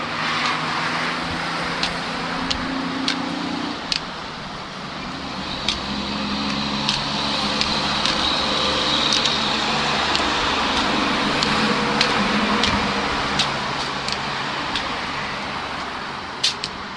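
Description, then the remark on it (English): Continuous roar of busy street traffic on West Lawrence, with cars and heavier vehicles rumbling past and a low engine drone, punctuated by sharp clicks and knocks. “West Lawrence, as you can hear, is very busy.”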